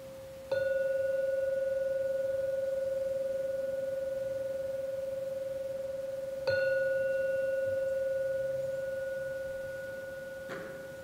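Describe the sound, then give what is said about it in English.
A meditation gong is struck three times to formally end a period of meditation, each strike a bright attack followed by a long, steady, mid-pitched ringing hum that slowly fades. The second strike comes after a long pause, the third sooner. “I will now ring the gong 3 times to formally end this period of meditation.”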